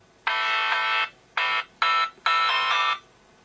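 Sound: telephone ringing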